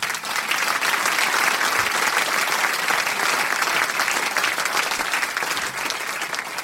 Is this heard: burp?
no